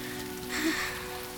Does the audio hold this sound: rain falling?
yes